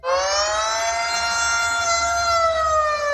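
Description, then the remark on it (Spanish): An air raid warning siren in Ukraine, warning of bombings, wails steadily and loudly, its rich, buzzy tone holding and then sagging slightly in pitch across a few seconds, with no voices over it. “Por desgracia, son las sirenas que en Ucrania avisan de los bombardeos que han causado el desplazamiento de millones de personas, la mayoría mujeres y niños.”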